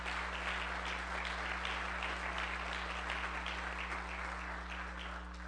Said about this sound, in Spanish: Cuando Jesús llega, algo pasa. Denle un aplauso a Dios.